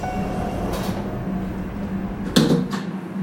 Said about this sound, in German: Achtung, Tür schließt.